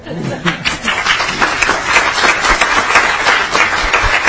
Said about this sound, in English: So I would like to end by saying that there's a bunch of folks in the audience. If you missed this, I would like to get an applause for the ethnic councils today as loud as you can.